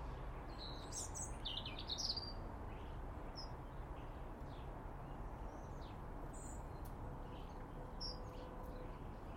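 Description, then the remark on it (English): A wren sings in a tree, a quick, bright trilling burst at the start, followed by scattered high chirps over a steady outdoor hiss. “Mr. Wren up in the tree to the right.”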